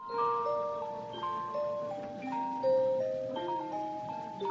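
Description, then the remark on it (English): Several clocks in a gift store in the center of Medford, Massachusetts strike noon, chiming sweet, overlapping melodies at once, their bell-like tones ringing out in steady sequences and sustaining over one another, moderately loud, with no talking. “Florid clocks strike noon in Ward's gift store in the center of Medford. The tunes are sweet”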